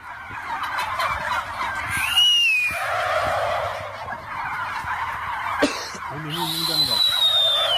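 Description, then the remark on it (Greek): A turkey gobbles loudly in a couple of warbling bursts over a busy background of chatter and noise. “Εισχωρούν γαλοπούλες στο σταθμό.”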